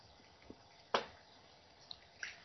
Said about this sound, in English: Take a little drink of water here.